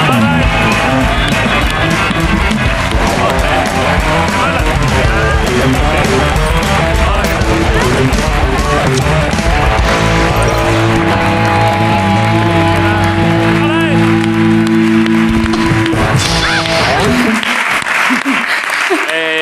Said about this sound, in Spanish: Vale, pues son las protagonistas y la directora, ¿no? De Vida Perfecta, en su segunda temporada. Un aplauso para Leticia Dolera, Celia Briceiro y Aisa Villagrán.